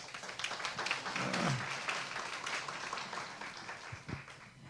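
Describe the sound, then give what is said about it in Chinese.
An audience applauds steadily for several seconds, a dense, even patter of many hands clapping with no voices over it, holding at a moderate level throughout, welcoming a speaker invited up to share. “我们来掌声欢迎他。”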